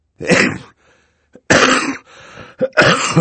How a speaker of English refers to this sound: As Violet spoke, Mr. Poe reached into his pocket for his handkerchief, and, covering his mouth, coughed many, many times into it. He coughed so loudly that Violet could not be certain he had heard her.